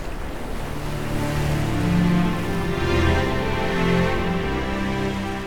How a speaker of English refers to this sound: There were no sounds beside the soft lapping of the sea. It was quiet, peaceful.